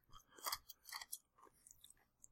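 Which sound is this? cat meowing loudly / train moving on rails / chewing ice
chewing ice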